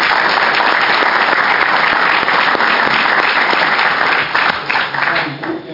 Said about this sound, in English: And just as a note, during the committee hearing, it's not appropriate to clap, but that was fun. I appreciate it.